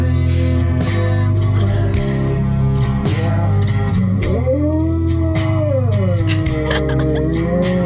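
A 5-year-old dog howls along to loud, steady band music, its long wavering cries rising and falling in pitch over the instruments, most noticeable in the second half.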